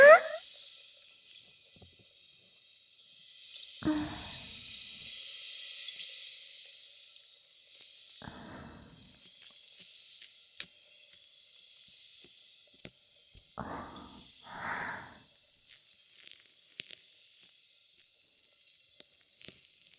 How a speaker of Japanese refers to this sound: ほら、炭酸の音もすごくないですか？